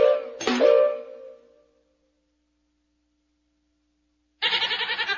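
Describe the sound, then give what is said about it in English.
A goat bleats loudly, a wavering cry that fades out, then after a quiet pause a second harsh, trembling bleat starts up. “Goats like to eat everything.”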